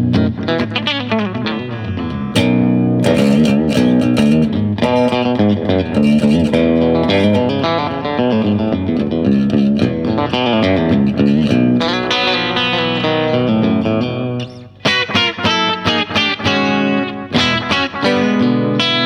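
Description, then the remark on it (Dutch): Electric guitar played loud with a short, quick slapback echo doubling each note, giving a springy feel over a steady riff with sharp attacks; no voices. “Nou zit je in een ruimte. En je kunt natuurlijk... De echte slapback dingen doen, hè?”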